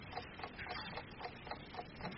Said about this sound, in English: Even the clock. Sir? The clock. Is it the original? Sir, there is no clock. No, but I can hear it. Listen. No, listen.